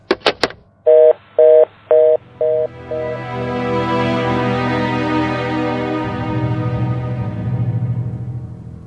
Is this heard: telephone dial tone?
yes